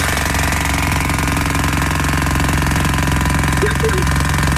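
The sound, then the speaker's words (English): A jackhammer pounds away in rapid, steady bursts for the whole stretch, loud, with a low engine rumble droning underneath. “Sounds like a jackhammer. It is.”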